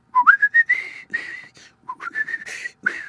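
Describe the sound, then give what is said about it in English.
A person whistles a bird-like song phrase twice, with quick rising chirps sliding into sustained bright notes, clear with a short pause between the two phrases. “In between mouthfuls he would whistle just a part of his song.”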